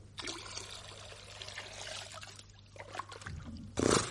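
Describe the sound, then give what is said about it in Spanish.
Water is poured by a person into a washbasin, a steady, continuous splashing trickle that runs for several seconds, then ends with a brief louder gush. “Deja, yo mismo te pondré el agua en la jofaina.”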